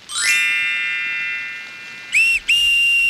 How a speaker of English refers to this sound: What can the magic bag make with the letters WH, the sound WH? I'm going to try a whistle.